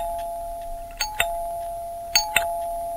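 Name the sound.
doorbell ringing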